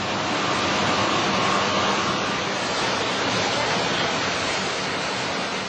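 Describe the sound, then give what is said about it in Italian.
A steady, dense roar of water, pumped by huge machines from 20 wells 100 metres deep, rushing through pipes at a city pumping station, loud and unbroken throughout, with a faint mechanical hum underneath and no voices. “Qui sotto ci sono 20 pozzi profondi 100 metri e l'acqua che viene pompata da queste enormi macchine entra in questi tubi.”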